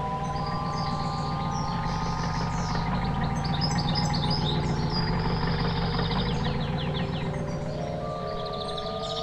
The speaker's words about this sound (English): A car is driving down a typically winding country road with a dense treetop coverage.